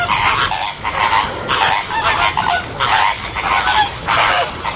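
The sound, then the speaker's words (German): A dense flock of pink flamingos at Basel Zoo chatters loudly, overlapping honking calls rising in repeated bursts about every second, continuous with no voices. “Die schön rosa gefärbten Vögel, die im Frühling mit einem riesen Geschnatter auf sich aufmerksam machen”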